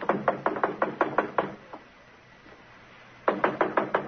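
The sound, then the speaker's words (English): Police knock on a door: a quick, firm run of knocks, a single stray rap, a pause of silence, then another rapid burst of loud, insistent pounding. No voices. “Fred, open up. It's the police.”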